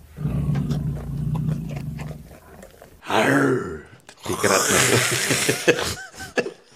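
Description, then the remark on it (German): A deep, rumbling growl gives way to two loud, rasping, throaty roars, harsh and sounding much like heavy snoring; short huffs trail off at the end. “Das hat jetzt mehr getönt, wie ein älterer Herr, der schnarchelt in seinem Mittagsschläfchen.”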